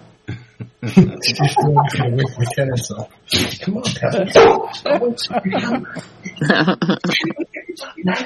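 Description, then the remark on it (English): A dog barks in short, repeated bursts and lets out occasional whimpers, fairly loud, tangled up with people's voices talking over it throughout. “What a well-behaved dog.”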